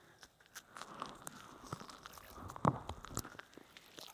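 Soft, irregular crackling and tiny pops of soap foam bubbles bursting, a steady fizzing texture with a few sharper clicks, fairly quiet and with no voices.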